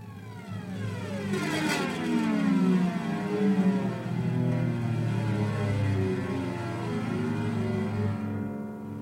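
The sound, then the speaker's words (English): A steel ball bearing rolls along guitar strings, travelling between two strings down the neck from the bridge to the nut, making a continuous, ominous metallic drone whose layered pitches slowly slide and waver, holding steady in loudness for the whole stretch, with no talking. “And so the ball bearing is traveling between two strings down the neck of the guitar.”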